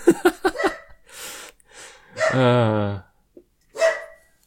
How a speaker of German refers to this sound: Ich bin ja dafür, dass wir irgendwann mal so einen Track aus dem Bellen deines Hundes machen.